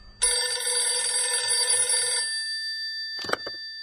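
A telephone bell rings once in a long, steady metallic trill for about two seconds, then cuts off, followed by a brief clatter like the receiver being picked up.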